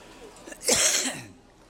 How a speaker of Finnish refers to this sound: Minä vähän etukäteen arvelin, että saapa nähdä, pystynkö minä puhumaan, kun minulla on niin paha yskä.